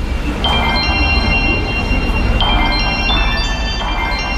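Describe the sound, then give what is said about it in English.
Synthesized bell tones from an iPhone music app, used for composing, strike several times at uneven intervals, their bright ringing partials sustaining and overlapping above a steady, dense background rumble. “I found some really interesting bell sounds on the music app that I'm going to incorporate in the composition.”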